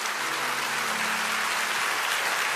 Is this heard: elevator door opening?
no